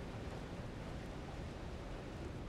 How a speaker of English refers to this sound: It sounds like water. I think the canyon's flooding.